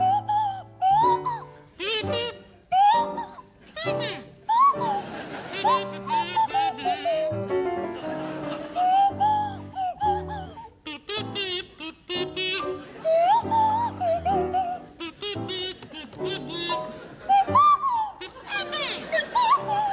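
A kazoo and a swanee whistle play a tune together, buzzy hummed notes mixed with sliding whistle pitches, loud and close, running continuously for the whole stretch.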